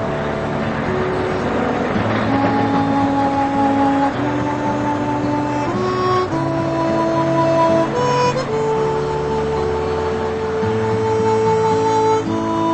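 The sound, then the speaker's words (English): A heavy engine drones steadily and climbs in pitch through a series of gear changes every couple of seconds as a bus pulls away. The rumble stays loud and continuous, with no voices. “The bus pulls away.”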